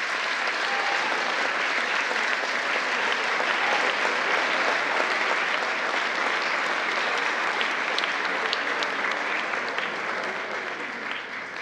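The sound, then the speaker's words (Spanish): Sustained audience applause for award-winning teachers, a dense, steady wash of many hands clapping at an even loudness for about twelve seconds, with no voices standing out. “Brindemos nuevamente un fuerte aplauso a las maestras y los maestros galardonados.”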